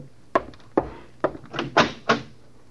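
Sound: door opening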